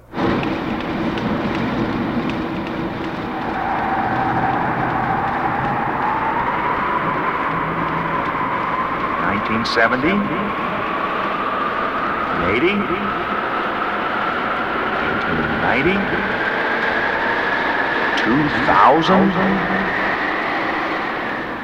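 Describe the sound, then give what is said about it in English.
A time machine traveling sound effect: a loud, steady roaring rush with a whining tone that climbs slowly in pitch, broken by a few sharp whooshing bursts, with no voices. “Wow, we traveled so fast that here we are in 2050 already.”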